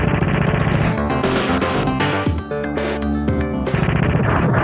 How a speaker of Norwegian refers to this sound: Og så her er det litt gameplay-lyd fra eneren da.